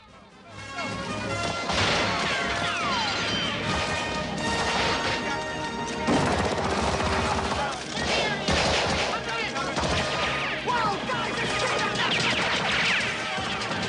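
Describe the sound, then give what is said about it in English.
A police RV with a battering ram crashes loudly through metal gates, pushing them open, a long, chaotic burst of clanging, scraping and smashing over a steady low engine rumble, sustained for over ten seconds. “The RV smashes into the gates, pushing them open.”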